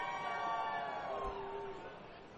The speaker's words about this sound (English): The commotion from the crowd. The mascot is trying to get the wave going.